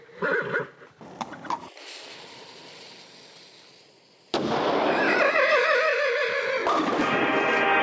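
A horse, Ernest the equestrian cannonball, whinnies briefly, the cannon fuse it has lit hisses steadily for a few seconds, then a sudden loud cannon blast erupts into a sustained roaring rush with wavering, whinny-like tones over it, in a mammalian cannonball bowling contest.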